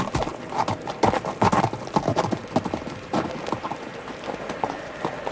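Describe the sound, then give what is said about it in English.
Horse hooves clip-clop steadily on a hard surface, a brisk run of sharp knocks with a soft hiss of background noise and no voices. “And now you, number three, get off your horse and come over here and tell us what this is all about.”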